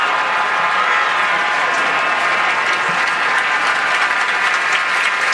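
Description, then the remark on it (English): A huge baseball stadium crowd of over 34,000 applauds steadily, acknowledging pitcher Blake Snell after the first hit of the game, a leadoff base hit in the top of the seventh inning; a dense wash of clapping and cheering that stays loud and even for several seconds, with no clear voices standing out. “So the first hit of the game, and this crowd of over 34,000 acknowledging Blake Snell.”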